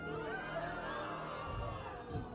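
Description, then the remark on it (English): Several voices imitate frightened peasants, overlapping in sustained, agitated yelling and shouting, fairly loud, with a chaotic, cheering-like texture throughout. “The peasants yell out in fear.”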